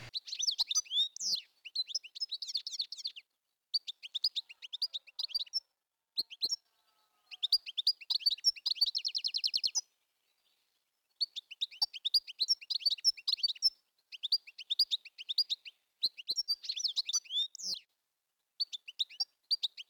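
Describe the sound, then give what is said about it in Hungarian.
Goldfinch song: rapid bursts of short, tinkling, ringing high notes, delivered in lively phrases separated by brief pauses, with no voices present. “Éneke sok rövid, csilingelő, csengő hangból áll.”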